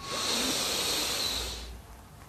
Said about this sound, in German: Okay, wir atmen jetzt gemeinsam alle tief ein.